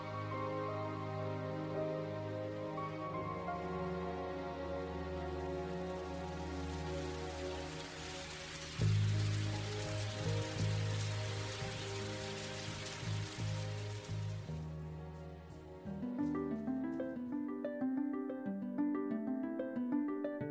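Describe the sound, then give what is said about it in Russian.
Huge raindrops patter steadily down onto a pond in a continuous hissing wash for several seconds over a bed of sustained musical tones, then the rain drops away and the music carries on alone. “Шлёп-шлёп! По пруду скакали огромные дождевые капли.”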